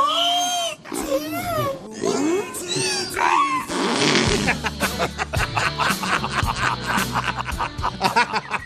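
A few swooping, moaning whale calls rise and fall in pitch for several seconds, loud, before a band's music starts and carries on underneath and after them.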